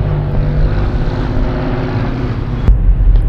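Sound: bus departing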